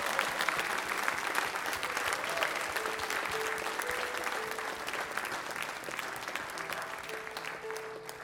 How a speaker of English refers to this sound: Would you bless the Lord with a good hand clap and thank him for the Holy Ghost.